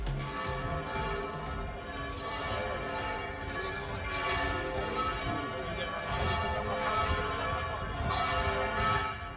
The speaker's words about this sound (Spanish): Este era el sonido de las campanas de la Catedral de Ciudad Real anunciando ayer sábado la sucesión apostólica con la toma de posesión de don Abilio Martínez Barea como nuevo obispo de nuestra diócesis.